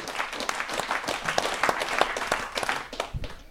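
A crowd applauds steadily for a couple made honorary members, many overlapping claps forming a dense, bright patter at a fairly even level before thinning slightly toward the end.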